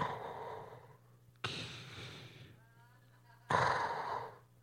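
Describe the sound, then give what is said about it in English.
A voice imitates heavy, mechanical respirator breathing: three loud, raspy breaths in a slow in-and-out rhythm, hissing, over a faint low hum. “He wore all black, and he had a breathing issue. He left his inhaler, and so he sounded like this.”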